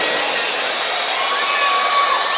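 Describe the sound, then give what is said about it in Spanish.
A dense, steady roar of an assembly crowd in Panama shouting and whistling at once, with thin whistle tones gliding above the noise, loud and continuous for the whole moment. “que el pueblo de Panamá tiene prodigios que pueden silbar y gritar a la vez.”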